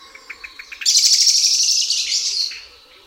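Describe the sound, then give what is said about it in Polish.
An alarmed blackbird gives a quick run of repeated clucking notes that build into a loud, sustained, harsh screech, clear with no other sounds around it. “Zaniepokojony kos odzywa się szybko powtarzanymi sylabami, które przechodzą w przeciągły, głośny dźwięk.”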